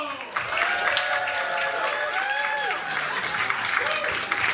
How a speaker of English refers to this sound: Your next comic coming to the stage is your next comic in the Seattle International Comedy Contest. Big round of applause, everyone,